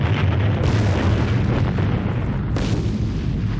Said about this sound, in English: So, what I had to do next was build the sound effect from scratch. So, I started with some roaring fire. And then I added some whoosh sounds. And a few explosions.